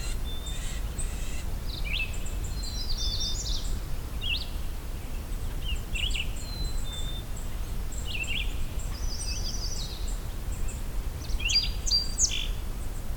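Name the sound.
song sparrow singing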